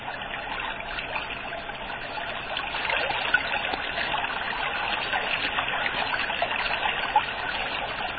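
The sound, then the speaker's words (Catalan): The Noguera Pallaresa river rushes noisily and steadily between colossal masses of limestone rock of the Montsec d'Ares and Montsec de Rúbies, its continuous churning and gurgling fairly loud throughout, with no voices over it. “Entremig d'aquestes colossals masses de roques calcàries s'escorre sorollós el Noguera Pallaresa.”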